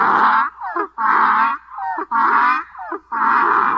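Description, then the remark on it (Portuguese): A donkey standing at a gate, ears flattened and teeth bared, brays loudly in a repeated hee-haw, four harsh, raspy high-pitched blasts alternating with short, lower wheezing intakes in a steady seesaw rhythm, with no talking. “O jegue estava no portão, quis me pegar. Quando me viu, foi murchando as orelhas, mostrando o dente e começou a relinchar.”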